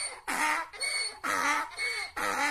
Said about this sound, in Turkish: Ancak tam dokunacakken Silenus'un eşeklerinden biri yüksek sesle anırır.